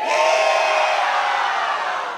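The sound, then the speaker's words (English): A large crowd in Fort Collins, Colorado, yells a collective "yee-haw" on a count of three, a loud, sustained roar of many voices that holds steady for about two seconds and fades only slightly at the end. “Fort Collins, I need to hear your biggest, baddest yee-haw on three.”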